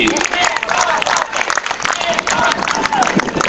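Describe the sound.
Supporters clap steadily and loudly for a runner after a half marathon, a dense patter of many hands with voices cheering and calling out beneath it.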